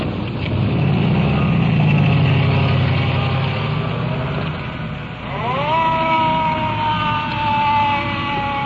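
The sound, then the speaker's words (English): A resuscitator truck engine on the left grinds and rumbles steadily, low and continuous, with a rising whine joining in toward the end like a siren or gear strain starting up. “Resuscitator truck on the left. Still grinding away.”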